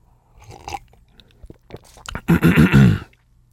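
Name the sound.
sipping tea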